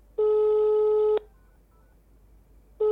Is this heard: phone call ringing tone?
yes